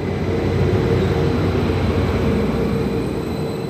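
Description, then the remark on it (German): A departing regional train leaves Bingen main station in Germany, rumbling steadily: a dense low-frequency roar with faint tonal hum, holding fairly loud for the whole stretch and easing slightly at the end. No voices. “Am Hauptbahnhof Bingen schaut der gescheiterte Radler dem abfahrenden Zug nach.”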